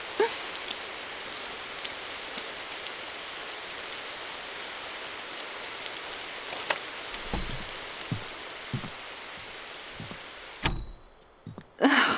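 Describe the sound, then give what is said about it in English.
Steady, dense rain hisses for about ten seconds, broken by a few soft low thuds, then the downpour suddenly muffles to near quiet with a couple of knocks and bumps at the end. “Why does this always happen when I forget my umbrella? It's like the rain knows.”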